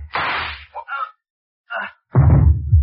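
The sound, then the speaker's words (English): A loud, sharp shot from a single-shot pistol cracks out and decays quickly, followed by a few softer knocks and scuffles, then a heavier low rumbling burst near the end. “don't wave that gun at us, Noonan. It only holds one shot.”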